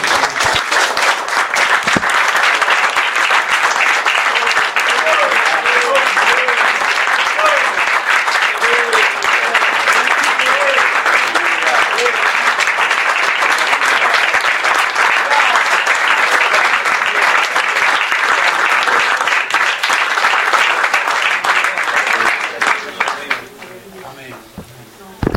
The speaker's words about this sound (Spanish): Gracias, Señor. Señor, este aplauso es para vos, porque te lo mereces.